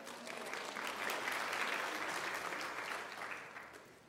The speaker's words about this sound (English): Did you pick a hand? That's it. Clap for her.